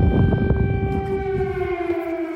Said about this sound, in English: At the same time, while we were there, there were several air raid alarms.